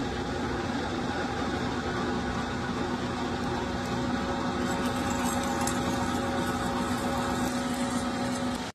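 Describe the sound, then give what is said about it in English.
A hand-sharpened drill bores through aluminum with a steady, unbroken motor hum and a faint metallic hiss, holding an even loudness for several seconds with no voices. “And before you comment about how easy it is to drill aluminum, here's some 316 stainless steel.”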